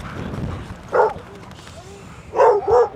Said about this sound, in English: The dogs are panting and ready for water.